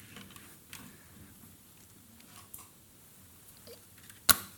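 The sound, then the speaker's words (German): A cross is set down into a wastepaper basket: after soft rustling and faint small clicks, one sharp, loud clack near the end, with no talking. “Und ich stelle dieses Kreuz jetzt mal in diesen Papierkorb hinein.”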